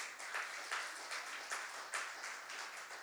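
A crowd applauds steadily, many hands clapping together in a dense, bright patter that swells in soft waves throughout, with no voices heard over it.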